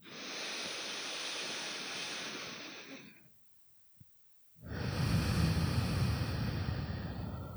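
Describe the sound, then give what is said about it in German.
Two long, slow, airy breaths through the nose, each about three seconds, separated by a brief silent pause, with no talking. The breathing goes out through one nostril and back in through the same one, then out through the other nostril. “Das heißt, wir atmen immer durch ein Nasenloch aus und dann wieder ein durch das gleiche.”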